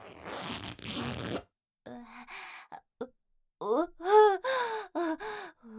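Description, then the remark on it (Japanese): A trouser zipper is drawn down in a quick, raspy burst lasting about a second, followed by breathy gasps and soft vocal moans after a short pause. “ズボンのチャックを下ろせば。”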